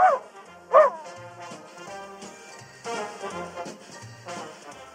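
A small pet dog named Fifí yips twice, sharp and high-pitched, right at the start, then keeps up a busier run of yapping and whiny barks, fairly loud.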